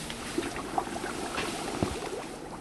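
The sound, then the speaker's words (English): Louisiana cane sugar from a 25-pound bag pours into a big kettle of bottled spring water to make simple syrup for shaved ice, making a steady hissing, sloshing rush with a few soft splashes and clinks, moderately quiet, with no talking. “And then this is our sugar, and it's going into the big kettle of spring water.”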